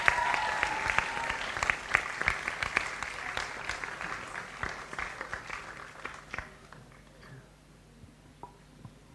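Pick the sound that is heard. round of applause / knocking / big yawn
round of applause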